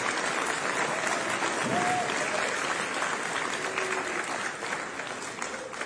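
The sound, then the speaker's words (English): An audience applauds with steady, dense clapping that runs the whole time at an even level, with faint voices murmuring underneath, easing off only slightly toward the end. “I should applaud you.”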